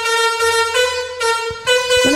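Loud, sustained car horns blare in short and long blasts, shifting pitch to pick out a recognizable tune, with a low rumble underneath and no talking.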